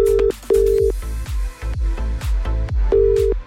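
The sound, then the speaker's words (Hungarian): A steady telephone ringing tone of an outgoing call placed during a radio request show sounds in short beeps, two near the start and one at the end, over a rhythmic background beat with thumping bass. No one speaks. “Reméljük, hogy felveszi a telefont”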